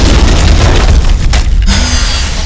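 A loud laser cannon blast, fired from a cannon on a metal arm, with a heavy booming rumble that fills the whole clip, ending in a short electronic whine as the roar carries on.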